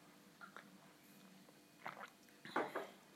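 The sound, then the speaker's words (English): Quiet mouth sounds of someone sipping a piccolo, a milky coffee drink: a few soft slurps and wet smacks, with the strongest sip near the end and no talking. “Let me try another sip.”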